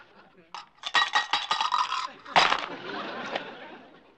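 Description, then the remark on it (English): Dice thrown onto a Monopoly board clatter and click across the hard surface in a quick burst of rattling taps, then a second sharper tumble that settles into a softer rustle. “Lisa, will you throw the dice?”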